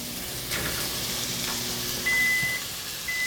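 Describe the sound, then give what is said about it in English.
Bell peppers sizzle in a frying pan as dinner is cooked, with a steady, crackling hiss, while a thin, high electronic beep sounds twice near the end. “Oh, that's the sound that dinner's almost on the table.”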